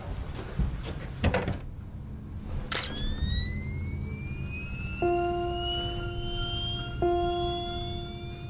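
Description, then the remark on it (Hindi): A couple of sharp pops from an old-fashioned camera flash that has just been repaired, then a thin, rising electronic whine as the flash recharges, followed by two steady ready tones. The sounds are clear, with no talking. “ये लो तुम्हारा दकियानूसी फ्लैश, ठीक कर दिया है, अब काम कर रहा है।”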